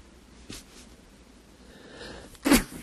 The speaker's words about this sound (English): So what are you sneezing for? You taking a cold? No, I'm driving the devil out.